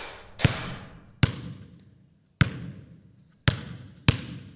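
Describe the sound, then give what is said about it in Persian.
A ball bounces five times at an uneven pace as someone plays ball, each sharp, hollow smack ringing briefly. Clear, with no voices. “توپ بازی میکردم.”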